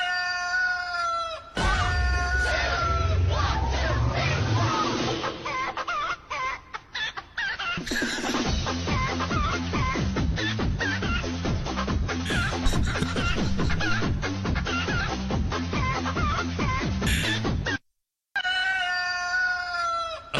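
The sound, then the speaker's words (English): Loud, nonstop barnyard racket of many chickens clucking and squawking, with drawn-out rooster crows rising above the rapid pulsing chatter for about fifteen seconds, at a house at 6 a.m. No one speaks. “Well, this guy got denied his chicken and was forced to kill his two chicken. And so every 6 a.m., every morning now, this happens at his house.”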